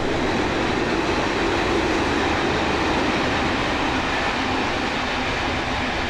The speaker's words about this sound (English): There goes the train.